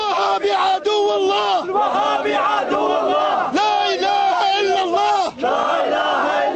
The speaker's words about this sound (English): Chanting, "Saddam is the enemy of God, Wahhabis are the enemy of God," these protesters blamed Friday's explosion on Saddam Hussein and a fundamentalist offshoot of Sunni Islam.